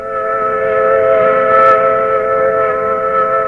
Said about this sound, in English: The sound to which you are listening is the sound of a mill whistle in Carrollton, a cotton mill.